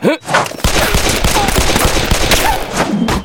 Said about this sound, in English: Holy cow! He shot it six times!